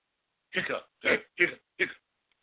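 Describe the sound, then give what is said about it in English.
Four short, abrupt hiccup-like vocal bursts in quick succession, fairly loud, with brief pauses between them; a voice appears to be imitating hiccups. “Hiccup.”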